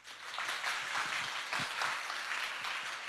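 Sustained applause from an audience, a dense crackle of many hands clapping at once that holds steady and fairly loud for about three seconds, with no voices over it.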